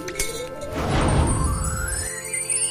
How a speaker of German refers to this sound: springen und scheppern durch den Frachtraum. Dabei versuchen sie, die Glühwürmchen einzufangen.